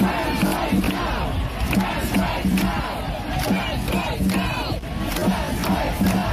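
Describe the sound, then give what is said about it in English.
A large crowd at the April 19th emergency trans rights demonstration in Parliament Square, London, protesting a UK Supreme Court decision, chants together in a steady, rhythmic cadence, a short phrase repeating over and over. The many voices stay loud and dense for the whole stretch. “The April 19th emergency demonstration in London's Parliament Square was organized by 24 queer and human rights groups on less than 3 days' notice.”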